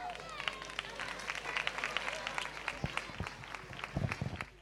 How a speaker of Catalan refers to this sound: Ara ho veuràs amb els rockers i rockeres de segon. Un fort aplaudiment.